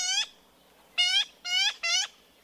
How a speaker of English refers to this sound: Yellow-billed magpies are clever, colorful birds, and they're only found in Central California. Like their crow and jay cousins, these Golden State Corvids are full of character.